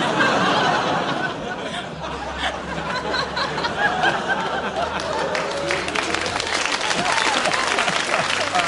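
Sustained audience applause, a dense steady patter of many hands clapping for several seconds, mixed with some laughter and murmuring from the crowd.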